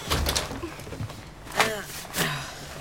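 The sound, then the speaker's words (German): A door is pushed shut: a creaking swing followed by a solid closing thud, with some muffled handling and shuffling sounds around it and faint background noise. “Mach die Tür zu, Opa.”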